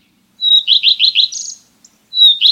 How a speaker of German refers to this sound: Das hier ist auch so ein Langstreckenflieger, der in Afrika überwintert. Der Gartenrotschwanz. Im Sommer können Sie ihn an seinem zitternden roten Schwanz erkennen, wenn er auf niedrigen Ästen oder Büschen sitzt und auf Insekten wartet.